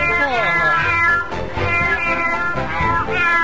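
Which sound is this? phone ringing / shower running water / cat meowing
cat meowing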